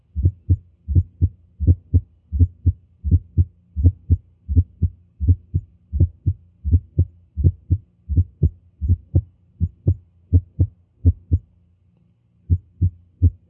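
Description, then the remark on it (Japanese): Heart sounds heard through a stethoscope placed over the heart at an auscultation point for the third heart sound: low, muffled thuds of the first, second and third sounds in a fast, steady galloping rhythm, an atrial murmur, several beats clustered per cycle, with a faint hum underneath and no talking. “これは心房性の雑音です。”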